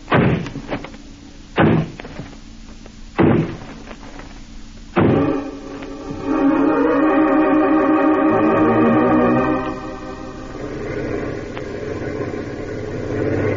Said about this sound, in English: This is the place. It's a dance hall and tavern. They won't open up for us. All right, men. Smash down that door.